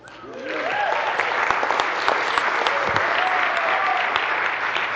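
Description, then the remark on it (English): An audience applauds the speaker's wife on their 12th wedding anniversary. The applause swells within the first second, then holds as a dense, steady wash of clapping, with faint voices and a few cheers mixed in. “She's the one that deserves the round of applause.”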